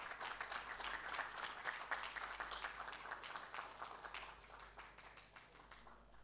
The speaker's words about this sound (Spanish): Le hace entrega de esta placa de reconocimiento a su carrera artística el presidente de la Honorable Cámara de Diputados, el doctor Raúl Latorre, así como también la diputada nacional Rocío Abed. Fuertes los aplausos.